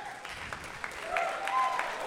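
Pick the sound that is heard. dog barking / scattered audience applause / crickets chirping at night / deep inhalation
scattered audience applause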